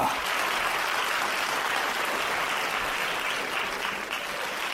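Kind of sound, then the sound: crowd, studio audience applause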